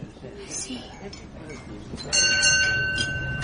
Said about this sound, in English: See. There's your train. Yes. You mustn't miss it.